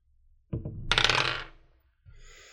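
Dice are rolled during a game turn: they rattle and tumble across a hard surface in a quick burst of bright, clicking taps lasting about a second, followed by a brief, fainter clatter. No one speaks.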